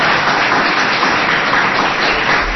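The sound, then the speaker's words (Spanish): Steady audience applause fills the whole moment, a dense, even wash of many hands clapping at once, loud with no voices breaking through. “¿Le damos un aplauso?”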